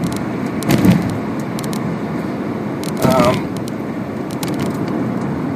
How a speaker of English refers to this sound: not literally as I speak because I'm driving my car and talking to you guys